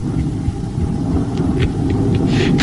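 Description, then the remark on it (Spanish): A deep, steady rumble of a night thunderstorm fills the background, continuous and fairly loud, with faint scattered crackles and hisses rising above it. No one speaks. “Aunque sea noche de tormenta, no estarás solo.”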